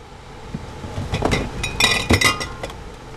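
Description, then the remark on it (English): Glass jars of raw cow's milk clink together several times in quick, irregular knocks as they are pulled from a cooler against the wall of a refurbished shuttle bus, with a soft rustle of handling between the bright clinks and no voices. “pulls glass jars of raw cow's milk from one of the coolers against the wall of a refurbished shuttle bus.”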